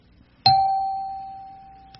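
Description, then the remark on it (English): A single bright radio chime rings out once, sounded to mark a good rule, struck sharply and then left to ring with a clear, steady tone that slowly fades over the next second and a half. No voices are heard. “I'll sound one of my radio chimes when I mention a good rule.”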